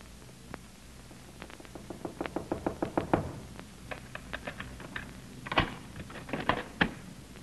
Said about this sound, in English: And there was a knock on the door.